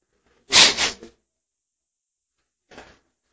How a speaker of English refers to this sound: Blow my nose for a minute, let that sink in.